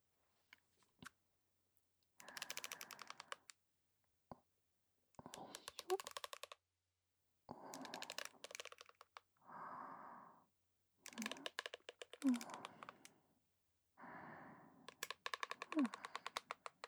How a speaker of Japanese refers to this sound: このブラシで、さすがにこれでくすぐると痛いので、指で弾いて、音だけ聞かせてあげますね。